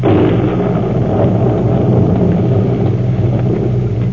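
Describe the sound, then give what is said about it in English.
A deep, loud roll of thunder rumbles continuously for several seconds, heavy, during a storm at night, with no voices over it. “On a night like this, Bowers might slip out through the storm.”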